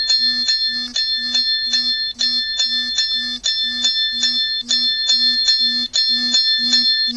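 A 3-minute timer alarm goes off as its time runs out, ringing insistently with rapid bright metallic chimes in a steady rhythm over a low buzzing vibration pulse, loud with no talking.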